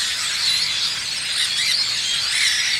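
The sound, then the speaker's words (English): A flock of grackles, little blackbirds perched on the stays of sailboats, chattering nonstop, a dense wash of overlapping high, squeaky, creaking calls like rusty hinges, steady and fairly loud throughout with no voices. “Little blackbirds, their chatter has all the charm of 1,000 squeaky hinges.”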